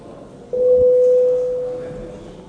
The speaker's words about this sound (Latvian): Lūdzu zvanu. Balsošanas režīmu. Balsojam par pirmo priekšlikumu.